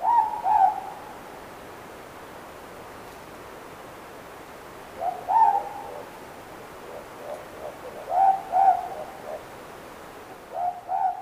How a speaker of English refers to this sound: And the last one was an observation of a ruru, mopoke, from Balmoral, Auckland. Ruru or mopoke are brownish owls, native to New Zealand, and their call goes something like this.